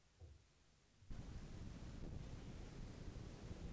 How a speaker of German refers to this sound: An diesem Abend wehte ein Wüstenwind. Es war einer jener heißen, trockenen Santa Anas, die durch die Gebirgspässe herunterstürmen, meine Nerven zerren und auf der Haut jucken.